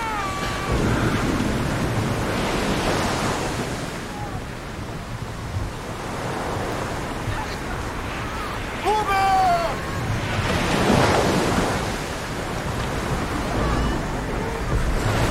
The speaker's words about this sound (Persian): این فقط طوفانه، تموم میشه. باور کن تموم میشه.